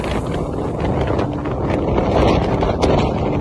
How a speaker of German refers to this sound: Aber dieses Geräusch ist tatsächlich entstanden auf einem Offshore-Windrad